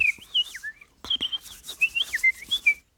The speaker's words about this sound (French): Et j'écoutais les moineaux qui rentraient dans les bambous, là, qui allaient chercher une place pour la nuit. Et il y avait un foin terrible, quoi, ça y allait